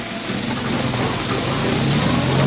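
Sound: car driving off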